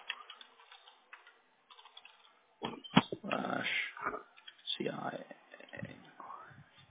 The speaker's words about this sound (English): Okay, I'm just typing in the last couple of things.